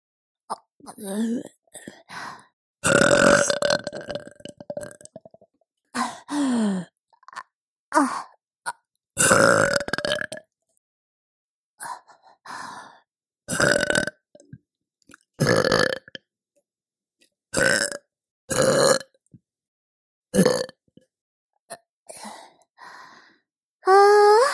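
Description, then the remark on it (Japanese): A long series of loud burps, more than a dozen, coming in irregular bursts separated by short silences, some drawn out and croaky, others short and abrupt. “ゲップだけなら出せますよ。”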